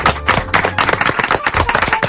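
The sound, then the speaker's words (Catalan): An audience applauds steadily, a dense crackle of many hands clapping at once, loud and sustained for a couple of seconds with no voices over it, in thanks for the book L'Arcadi al País de les Oliveres. “Aquest aplaudiment és per a cada Olivera.”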